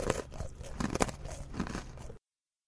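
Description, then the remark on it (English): A giraffe munching its food: a steady series of crunchy chewing bites and tearing sounds lasting about two seconds, with no talking. “Munch, goes the giraffe.”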